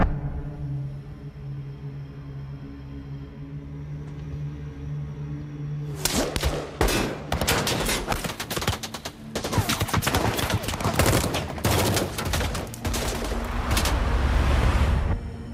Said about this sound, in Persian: طبق مدارکتون انگار براشون کمین کردن. تیراندازی شده و مهره غیبی زد.